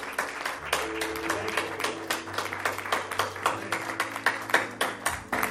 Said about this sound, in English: Let's just give the Lord a hand clap of praise as we decide. Amen.